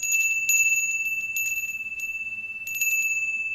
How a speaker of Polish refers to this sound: Także bardzo mi te dzwoneczki takie są bliskie mojemu sercu.